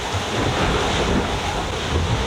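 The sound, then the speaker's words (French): Steady, roaring wind and crashing waves fill the scene, a dense continuous rush of water and gusts buffeting the microphone, heard on deck of a sailing boat at sea in strong wind, with spray soaking everything on board. “Je sais pas si on entend l'ambiance du bord, mais c'est vraiment assez dur.”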